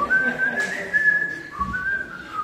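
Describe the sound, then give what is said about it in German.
Someone whistles a short, catchy jingle, the tune of a scrap dealer who drives around the house, clear, the pitch stepping up and down in a sustained melody for about two seconds with no talking. “Ich kann die Melodie schon auswendig pfeifen.”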